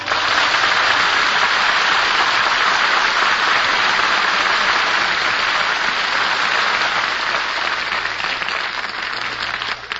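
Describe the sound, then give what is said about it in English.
Sustained audience applause after a song performance on a show fills the whole ten seconds, a dense, steady wash of many hands clapping at an even loudness, easing only slightly near the end, with no voices over it. “Deserve that applause”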